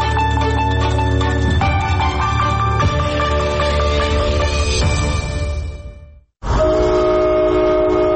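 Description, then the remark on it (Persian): A loud, sustained train horn blares with layered steady tones, briefly cutting out near the end before sounding again, with rumbling low-end beneath it. “بوق قطار، سوت کشتی، زنگ کارخانه.”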